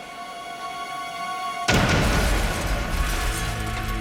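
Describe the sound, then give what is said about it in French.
A steady electronic hum is abruptly cut by a loud bomb blast from a mailed parcel bomb opened by an assistant at the University of Michigan, which gives way to a dense, sustained roar of rumbling debris and noise that continues to the end. “L'explosion blessa gravement l'assistant et fit exploser les tympans de McConnell.”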